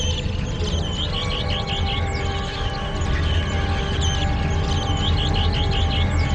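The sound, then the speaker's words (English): A watching bird warns its group of a young raven targeting the chicks, calling out repeatedly in short, sharp chirps, a steady series of warning notes over a dense, continuous wash of background noise and low hum. “One of the watchers sees the raven and warns the others.”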